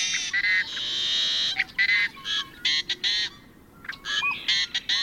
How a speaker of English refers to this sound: Equally arresting are the raucous growls, wails, and whistles of another western bird, the yellow-headed blackbird.